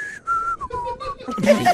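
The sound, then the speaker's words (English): A person whistles breathily through their teeth, a few short wavering notes wrapped in airy hiss, ending in a louder, noisier rush of breath. “When I whistle, it tends to be the. Real breathy. Oh, the through the teeth, yeah.”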